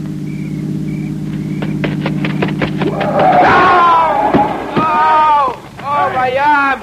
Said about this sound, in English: Listen. It's a car. It's got to be the one I think it is.